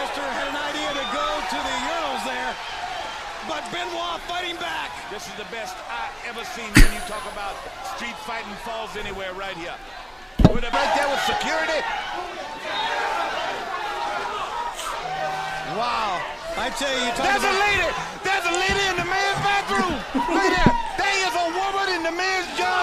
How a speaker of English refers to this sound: Oh, this is Macho Man punching into Kevin Nash at Bash at the Beach. I remember that.